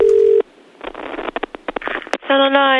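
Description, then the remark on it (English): A telephone line: a brief steady dial tone, then a run of quick dialing clicks and bursts, then a ringing tone starting up at the end, all narrow and tinny as if heard through the handset. “All right, oh, I might as well phone up as Britney's boyfriend again while I'm at it.”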